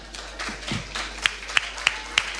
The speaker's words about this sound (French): Allez, on l'applaudit plus fort, on y va.